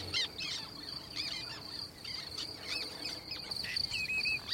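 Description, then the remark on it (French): A common redshank (chevalier gambette), a red-legged wader the size of a small pigeon that nests in the reserve, gives whistling calls, a few short clear notes repeated over a steady high insect trill, with more bird chirps scattered through the background. “Là, ce qu'on entend, c'est cette espèce de sifflement, on l'a répété deux, trois fois. C'est le chevalier gambette.”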